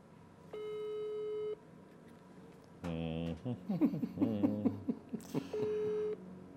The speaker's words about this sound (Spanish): A ver, marquémosle por WhatsApp. Ándale, WhatsApp, sí. A ver si esto funciona.